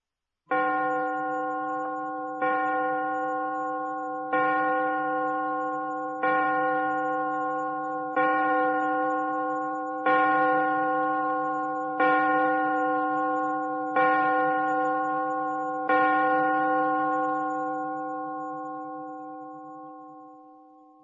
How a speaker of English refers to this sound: Look at the clock. Listen to the clock.